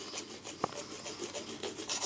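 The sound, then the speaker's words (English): A man brushes his teeth with a toothbrush: a steady run of quick, raspy back-and-forth scrubbing strokes, fairly soft, with one brief click partway through and no talking. “It's just the sound of other people brushing their teeth.”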